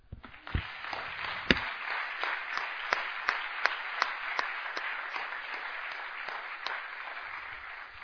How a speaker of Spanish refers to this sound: Bueno, antes de empezar, quisiera que me acompañen rápidamente. Le vamos a dar un fuerte aplauso al Señor.